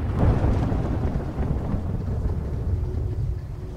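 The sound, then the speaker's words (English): A deep, rolling rumble of thunder during a nighttime lightning storm swells near the start and keeps growling steadily for several seconds, low and heavy, with no voices. “Nighttime. The lights are on in the house. Lightning flashes.”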